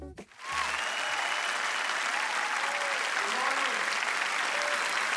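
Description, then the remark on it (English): A chapel audience gives a hand clap to Jesus, breaking into sustained applause, dense clapping spreading evenly and holding steady for several seconds, with faint cheers and whoops rising through it. “Give a great hand clap to Jesus.”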